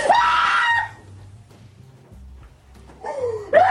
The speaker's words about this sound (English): Michael! She's screaming, Michael? Oh my god, the brother is like grabbing her by the neck and pushing her up again into the bath.